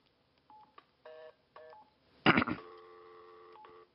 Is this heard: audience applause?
no